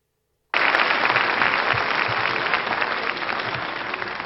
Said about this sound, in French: Oh, n'essayez pas d'influencer le vote par des applaudissements intempestifs, hein.